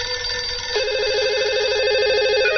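A telephone rings steadily, its bright warbling electronic tone repeating rapidly and continuously, loud, with no voices over it.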